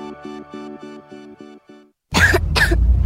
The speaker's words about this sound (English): What about my cough? DayQuil Kids has that covered.